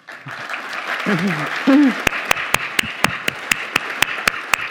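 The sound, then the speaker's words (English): An audience in a library applauds steadily at a prize ceremony, celebrating an achievement, with a brief voice rising over the crowd early on, then one loud pair of hands clapping in a sharp, even rhythm above the ongoing applause. “we are all here to applaud and celebrate your achievement.”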